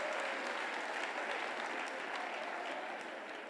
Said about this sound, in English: Clap unto the Lord. Hallelujah.